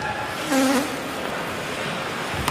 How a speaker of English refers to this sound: I don't know if that was a horn in the crowd. That was a horn.